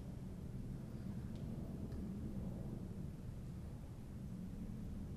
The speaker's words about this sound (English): When you open your senses to the sound of that jet going overhead right now, you relax the energy of your mind to fully embrace and rest on the life that lives in your body in this moment.